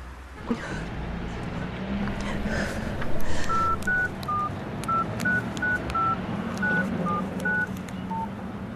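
A quick series of telephone keypad beeps dials a number, about a dozen short tones in an uneven rhythm, over a steady low rumble of background noise.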